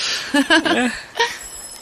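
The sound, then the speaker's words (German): A doorbell at a house's front door rings in a short burst of bright, chiming tones, several quick notes close together, then one more ring after a brief pause, over faint background hiss. “Wie wäre es, wenn wir einfach an der Haustür klingeln?”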